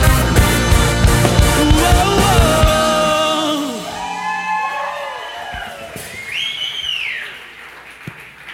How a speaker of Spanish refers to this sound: Puedes dar el aplauso un poco más fuerte. Ahora se lo puedes dar mucho más fuerte.